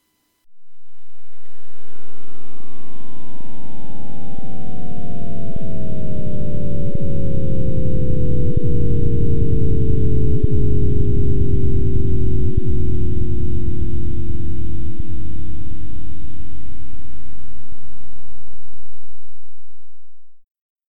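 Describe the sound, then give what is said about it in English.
A sonification of the Big Bang, covering the first 750,000 years of the universe, produced by John G. Kramer, Professor Emeritus of Physics at the University of Washington: a loud, continuous low roar with layered tones that glide slowly downward in pitch over about twenty seconds, then fade out. No voices. “That was the sound of the Big Bang, the first 750,000 years of our universe, give or take, produced by John G.”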